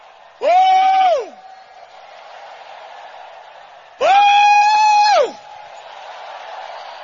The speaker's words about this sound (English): You believe it, shout the loudest, amen.